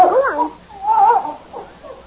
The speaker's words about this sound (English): Hey, that's quite a dog you got. Best in the world.